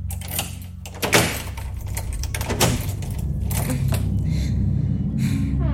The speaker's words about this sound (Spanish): La puerta se abrió despacio.